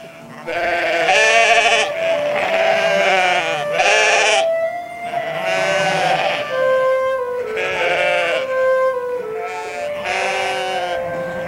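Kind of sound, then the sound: animal, sheep bleating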